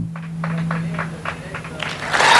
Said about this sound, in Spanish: A ver, el aplauso.